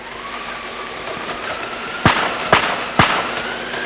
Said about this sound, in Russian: Мужики, которые едут в трамвае, заряжают двустволки и бабахают по зверью.